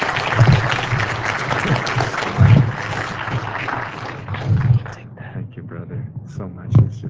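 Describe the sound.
An audience applauds after a talk, a dense, steady wash of clapping for about five seconds, then it thins into scattered individual claps that taper off, with low murmuring voices underneath.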